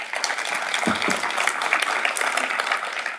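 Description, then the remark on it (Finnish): Warm audience applause welcoming writer Minna Lindgren, a dense steady patter of many hands clapping at even loudness for a few seconds, with a couple of brief low thumps early on. “Oikein raikuvat lämpimät tervetuloa aplodit Minna Lindgrenille.”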